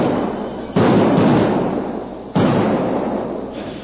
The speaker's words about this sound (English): the men sank charges of blasting powder into speedily dug holes in the bank, which formed a juncture between the stream and the arroyo. Then a series of explosions rent the air.